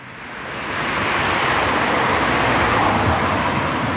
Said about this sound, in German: Sie hören es. Das ist die Donnersberger Brücke, die wir vom Arnulfsteg aus gesehen haben. Eine der am stärksten befahrenen Brücken in Europa mit 150.000 Fahrzeugen täglich.